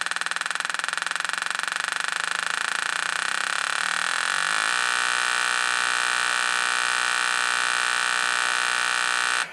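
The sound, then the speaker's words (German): A loud, buzzy, harmonic drone imitates a truck pulling away and speeding up, reaching full throttle at the end. The tone wavers and shifts partway through, then holds steady and full until it cuts off. No one speaks. “als nächstes will ich das Anfahren eines LKWs als Sound darstellen.”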